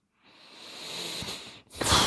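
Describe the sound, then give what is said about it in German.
A long, heavy huffing exhale builds in a broad airy hiss, breaks off briefly, then finishes with a sharper, louder burst of breath, without speech. “Muss ich schnaufen.”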